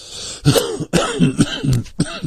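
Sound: cough and throat clearing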